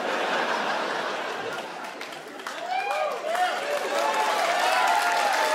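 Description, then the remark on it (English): An audience at a comedy show claps steadily, a broad crackle of many hands. Cheers, whoops and laughter rise over the applause in the second half. “Let that motherfucker clap.”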